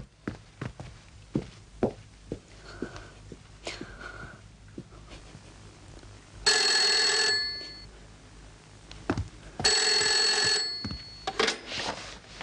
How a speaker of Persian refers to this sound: الو، بفرمایید. اون تلفن لعنتی رو قطع کن.